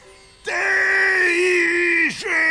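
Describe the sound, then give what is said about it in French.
A person imitates a tiger's roar with one loud, sustained vocal wail of about two seconds. It dips sharply in pitch near the end and then swells again, with no other sounds. “Le tigre s'éloigna, se battit les flancs avec sa queue, aiguisa ses griffes et s'exerça à rugir.”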